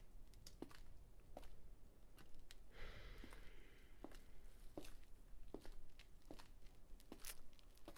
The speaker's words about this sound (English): Isn't that footsteps I'm hearing?